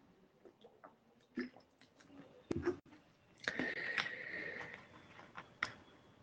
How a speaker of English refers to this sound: Just going to have a quick swig of water. Can feel the throat going.